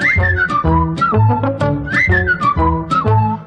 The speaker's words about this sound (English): Whistle along, join in the song.